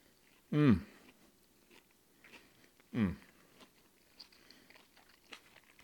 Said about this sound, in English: I want to chew in your ear. So what you got there is the green peppers complement with onions, a little bit of jalapeno, the spice, your wild venison in there, all comes together in a delicious, delicious fajita.